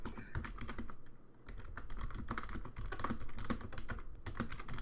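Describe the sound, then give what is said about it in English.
Rapid clicking of keys on a computer keyboard, fairly loud, a steady irregular patter of keystrokes running throughout with a constant low hum beneath and no voices. “Oh man, can you like type louder?”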